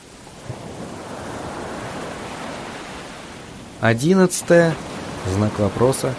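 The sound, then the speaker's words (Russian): A strong wind roars steadily and loudly for several seconds, a dense rushing wash of noise, before fading under a man's voice that begins speaking. “Последние 2 дня льет дождь, и ветер разбушевался.”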